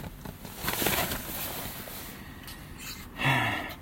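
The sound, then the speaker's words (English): Someone drinking peach water in the morning: soft slurping and swallowing noises with breathy rustles, ending in a short, louder satisfied gasp of breath. No one speaks. “I'm going to have a wee drink of my peach water.”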